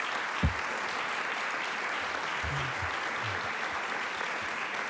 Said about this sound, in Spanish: Así que fuerte aplauso para todos.